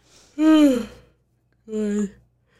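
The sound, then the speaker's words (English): A person yawns audibly: a long, drawn-out voiced exhale with a falling pitch, then a second shorter yawning sound after a brief pause, fairly loud. “Excuse my yawn.”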